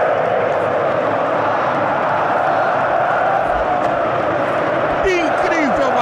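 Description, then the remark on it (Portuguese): A packed football stadium crowd of Corinthians fans roars and cheers continuously after a Corinthians goal against Juventude, a loud, dense wash of countless voices, with a few sharp rising shouts or whistles cutting through near the end. “Corinthians 2, ô torcida que me arrepia.”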